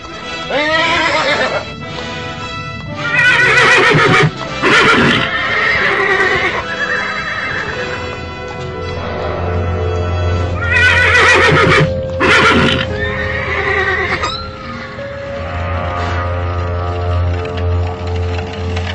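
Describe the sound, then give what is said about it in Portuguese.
Purebred horses from Egypt in the retinue of the Babylonian ambassadors whinny loudly several times in quick succession, their high, shaky neighs rising over a steady clip-clop of hooves and a low rumbling background, with no talking. “Olha os cavalos. Os cavalos de raça do Egito.”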